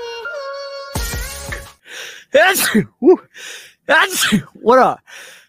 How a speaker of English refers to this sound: What a horrible time to sneeze. Like right in the intro, like I didn't have to sneeze at all. And then as soon as the intro happened, I just had like a flurry of sneezes.